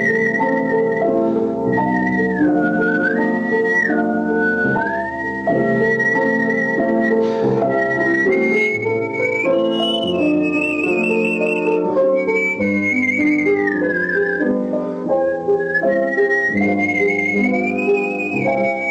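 A clear, bright whistled melody with vibrato glides and sustained notes, performed steadily over a full instrumental accompaniment for the whole stretch, with no talking.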